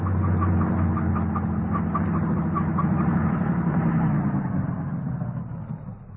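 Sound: truck passing by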